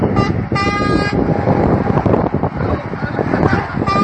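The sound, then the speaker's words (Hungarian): Heavy trucks driving in an autonomous platoon convoy rumble past on the M1 motorway near Lébény, Hungary, during a demonstration, in a steady, loud roar, with a few air-horn toots: a short one at the start, a longer blast soon after, and another near the end. “Ezek a néhány nappal ezelőtt Lébénynél az M1-es autópályánál tartott bemutató hangjai voltak.”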